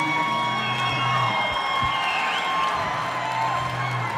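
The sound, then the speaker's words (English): A concert crowd on a Sunday night cheers and whoops steadily for about four seconds, a dense wash of voices with a few higher shouts rising above the roar at an even loudness. “And the other thing I'd like to say is that you've been a real, for a Sunday night, you've been a real Friday night crowd.”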